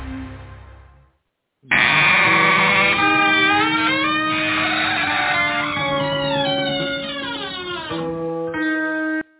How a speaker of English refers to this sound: I guess the goat's out wandering around somewhere, maybe cleaning the grounds of Poison Ivy, for all I know.